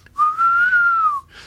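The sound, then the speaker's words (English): A person whistles a single sustained note in imitation of an owl's call, a clear mid-pitched tone that rises gently and then falls, lasting about a second with no talking. “They go like kind of make that noise, don't they?”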